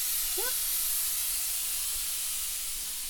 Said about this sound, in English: I would switch off the heat off and let this come to a rest. After a minute of the heat being switched off, you'll hear the whistling sound abate, and that's when then I'll do a quick check.